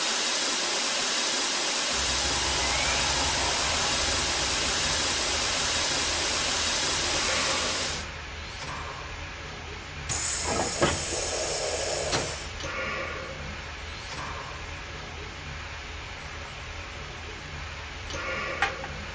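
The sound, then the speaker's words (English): Water gushes loudly and steadily into a steam locomotive's tender at the station in Green River for several seconds, then eases to a softer hiss broken by a few metallic clanks and thumps. “Make sure there's plenty of water in the tender.”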